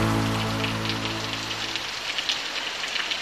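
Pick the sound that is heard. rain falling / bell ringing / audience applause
rain falling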